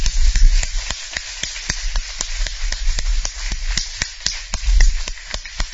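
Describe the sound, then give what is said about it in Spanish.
An audience claps together for the Lord in a steady, brisk rhythm, about four sharp claps per second, over a low, continuous rumble, with no voices standing out. “Sigue aplaudiéndole al Señor.”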